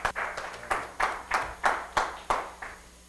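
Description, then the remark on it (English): An audience claps hands to the Lord in a steady, even beat, roughly three sharp claps per second, loud and in unison with no voices over it. “I'm going to get clapping hands to the Lord.”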